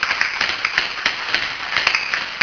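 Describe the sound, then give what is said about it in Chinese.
Students in a classroom clap together for the seventh group, a dense, uneven patter of sharp claps that stays at a steady moderate level for a couple of seconds, with no talking over it. “来，我们跟第七组拍手一下。”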